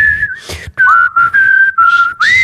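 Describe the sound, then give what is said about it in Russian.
Someone whistles the Happy Birthday melody to teach it to a parrot: a few clear, sustained notes gliding between pitches, with short breaks for breath and no talking. “Мы 63 раза будем это свистеть?”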